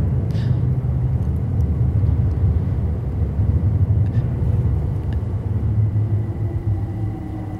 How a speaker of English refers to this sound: Oh, here's another train.